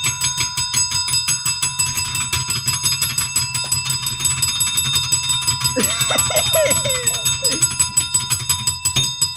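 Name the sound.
hand bell ringing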